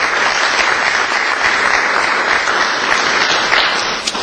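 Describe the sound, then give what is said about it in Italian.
Steady, sustained applause from an audience for Gaetano Sateriale, honorary president and former mayor of Ferrara, a dense wash of many hands clapping at an even, fairly loud level with no talking, holding for about four seconds before tapering slightly. “E poi vorrei ricordare anche come presidente onorario Gaetano Sateriale, già sindaco di Ferrara, a cui farei un applauso.”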